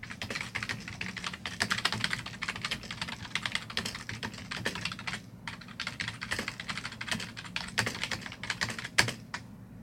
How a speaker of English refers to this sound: So what I'm going to do is I'm going to ask you some questions and if you don't mind just typing your answers up there.